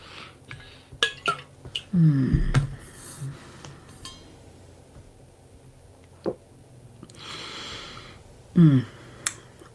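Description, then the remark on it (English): Someone takes a swig of water: scattered small clicks and light glassy clinks, with two short, low gulping sounds a few seconds apart. No one speaks. “So let's I'm going to grab a swig of water.”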